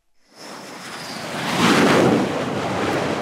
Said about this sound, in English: A Navy F-18 Hornet swoops in for a landing on the deck.